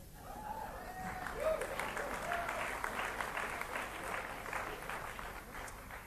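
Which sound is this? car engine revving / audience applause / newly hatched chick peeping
audience applause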